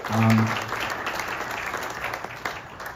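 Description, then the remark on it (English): A crowd of supporters cheers and applauds steadily at Wauwatosa as Brad Schimmel comes out to concede the race to Susan Crawford, a dense wash of clapping with a brief low tonal burst at the start and sharper claps breaking through near the end. “I want you to hear the crowd's reaction and then Judge Schimmel's reaction.”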